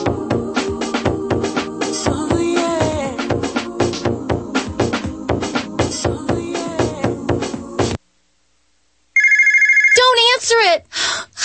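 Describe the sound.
A brief, loud burst of a telephone ringing sounds after a moment of silence, cut off as talking begins; a stretch of busy talk with background sound comes before it.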